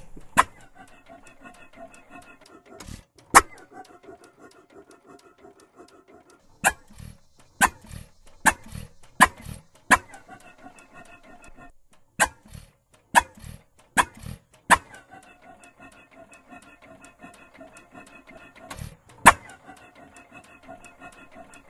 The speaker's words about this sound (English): We're listening to a hit-and-miss engine.